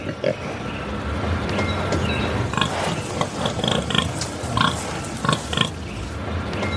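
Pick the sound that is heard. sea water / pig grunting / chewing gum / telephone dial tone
pig grunting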